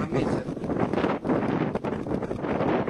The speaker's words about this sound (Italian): Adesso non siete più un cazzo perché c'è il vento.